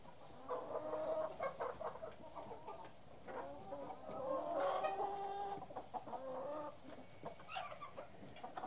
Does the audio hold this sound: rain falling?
no